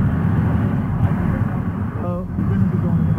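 road traffic noise

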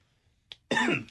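coughing

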